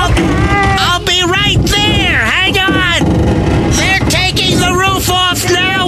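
Loud, continuous metal grinding as the roof is cut off a car, with a harsh whining pitch that rises and falls as the tool bites into the metal, over a constant rough mechanical roar.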